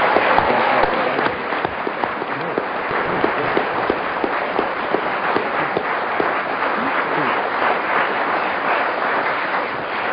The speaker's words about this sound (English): Oh, a well-deserved round of applause. First time for a while someone started with a subject and finished with it. It was the indomitable Kenneth Williams with rhinoceros.